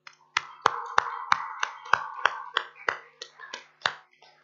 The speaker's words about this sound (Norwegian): Vi gir dem en applaus.